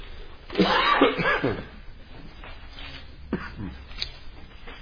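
coughing

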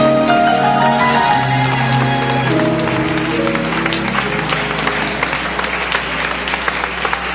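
audience applause

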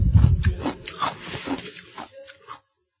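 chewing ice

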